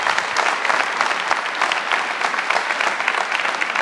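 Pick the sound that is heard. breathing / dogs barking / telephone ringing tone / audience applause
audience applause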